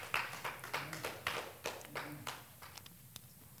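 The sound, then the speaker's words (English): Scattered applause from a small audience, quick overlapping claps that start lively and gradually thin out toward the end, with a faint murmur in the background. The audience claps at the end of a teaching. “Did y'all enjoy this teaching? Amen. Clap your hands.”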